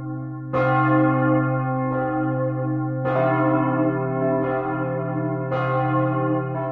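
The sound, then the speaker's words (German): A large church bell, about one ton and dated 1038, from a once-powerful imperial abbey whose church is now the world's largest Romanesque church ruin, rings in slow, steady strokes, each strike blooming into a deep, shimmering hum that overlaps the next, with no voices. “Mit ihrem verhärmt magischen Klang zeugt sie von den Anfängen der Glockengießerkunst in der einst so mächtigen Reichsabtei und jetzigen größten romanischen Kirchenruine der Welt.”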